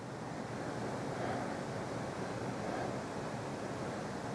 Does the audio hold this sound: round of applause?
no